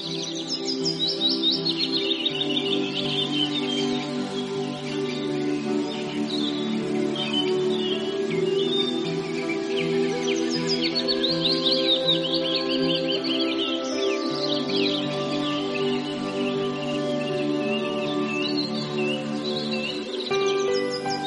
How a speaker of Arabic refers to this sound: انظر إلى سرب الطيور في السماء، إنها جميعها تتجه باتجاه واحد، وكأنها تتبع الطائر في الصف الأول فتسير معه وفق نظام منسق وبديع.